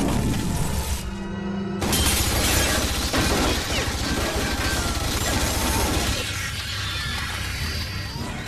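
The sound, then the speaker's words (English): Rubber crystals are shot and shatter as a film special effect: a loud, dense shattering crash bursts out after a brief tonal lull, followed by a long spray of tinkling, clattering debris that slowly thins out while staying fairly loud throughout. “Shoot the rubber crystals.”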